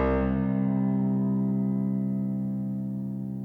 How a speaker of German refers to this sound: Das sind ausgespielt die ersten 16 Töne der Obertonreihe über C, die wir gerade als leises Flirren vernommen haben.